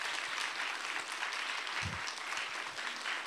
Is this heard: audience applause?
yes